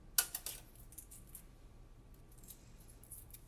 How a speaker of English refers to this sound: I'm trying to peel the egg. I have to be gentle. If you're tickling me, I can't be gentle.